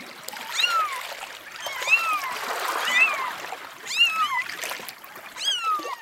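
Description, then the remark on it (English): High, curving kitten meows repeat roughly every second over a steady wash of ocean surf, the mewing bright while the waves hiss continuously underneath. “we're temporarily going to have to remove that from the podcast and just fill in with some slightly more relaxing sounds, the sound of kittens and the sound of the ocean.”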